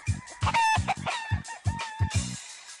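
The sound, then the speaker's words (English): A gamecock rooster kept in a garden near 103rd Street, Corona Plaza, along the number 7 train line, crows and clucks, a rapid series of loud, choppy calls and throaty bursts with no one speaking. “I guess it's sort of a natural progression to have chickens in the garden.”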